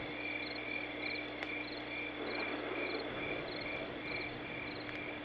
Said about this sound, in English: I don't hear anything except crickets.